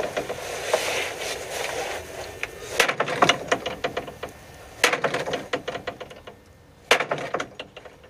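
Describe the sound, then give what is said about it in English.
A wooden door rattles and creaks, with a run of sharp clicks and knocks and three louder bangs spaced a couple of seconds apart, all without any voices. “This is the bishop's room door now.”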